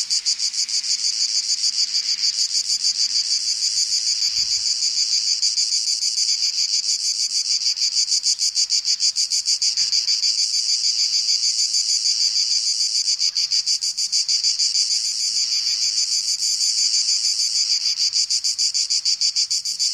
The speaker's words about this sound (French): Cigale en Provence, 1967.